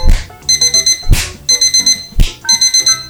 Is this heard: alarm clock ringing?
yes